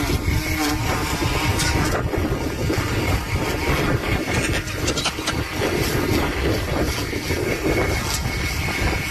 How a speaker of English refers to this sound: It's a windy day. What is that? Is that a Ryobi? I'm confused. What? Is any of this actual audio from the event? That is actual audio. Like a guess. Was that a weed whacker? I couldn't. Yeah. There was a weed whacker and there was lightning?